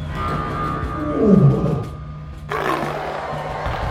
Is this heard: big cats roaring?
yes